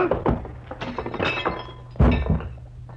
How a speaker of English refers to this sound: Gillum sprawled all over his coffee table, as limp as a 5-cent salad.